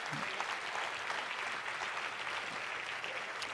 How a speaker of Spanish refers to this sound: Vamos, y ese es el aplauso.